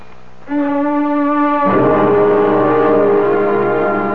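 An alarm blares with a steady, buzzy harmonic tone that abruptly turns louder and harsher partway through, then sounds continuously without pause. No voices are heard.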